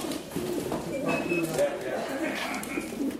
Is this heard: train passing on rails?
no